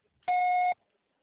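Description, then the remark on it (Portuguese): A single steady electronic beep lasting about half a second, a loud pure tone with faint higher overtones, starting and stopping abruptly like a voicemail recording prompt, with silence on either side. “Grave seu recado agora.”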